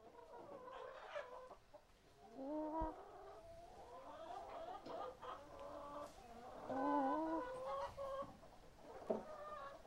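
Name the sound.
rooster clucking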